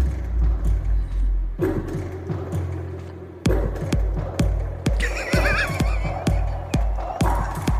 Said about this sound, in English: Listen to what this boy did for you for that fart sound. Listen how good this is. Another fucking techno kid sent us something that I'm amazed by. Listen.